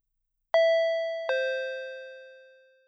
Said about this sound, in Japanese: 時間通りにインターホンが鳴る。